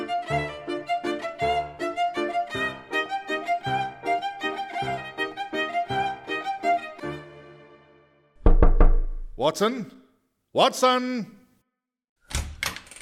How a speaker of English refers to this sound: Suffice it to say, this case began early on a crisp autumn morning, and although I ended up pleased to partake in this adventure, I blinked in some surprise and just a little resentment at the knocking on the door of my room at 7:15 that morning.